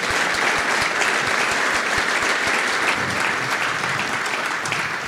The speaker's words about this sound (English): And I just think, even though this may be a rarity, I think we should all give Con Edison a really nice round of applause.